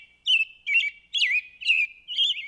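An American robin calls in five quick, bright phrases, each a short burst of chirpy, warbling notes separated by brief pauses, fairly loud and clear with no voices.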